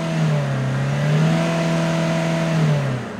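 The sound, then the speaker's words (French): The engine of a broken-down car revs but fails to start, a steady, loud droning hum that rises slightly in pitch, holds for about three seconds, then drops away abruptly at the end. No voices. “Putain, la voiture est en panne.”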